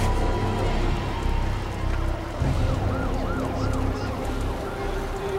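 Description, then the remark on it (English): The siren of a hook and ladder fire truck spraying a burning building with water wails in quick rising and falling sweeps over a heavy, steady rumble, loud without dominating the din. “A hook and ladder truck sprays the burning Regal Cove with water.”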